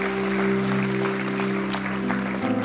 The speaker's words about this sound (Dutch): Ik zal applaus geven voor iedereen die deze keuze heeft gemaakt.